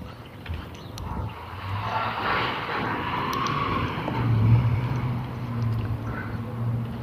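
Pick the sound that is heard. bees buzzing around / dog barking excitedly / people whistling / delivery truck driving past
delivery truck driving past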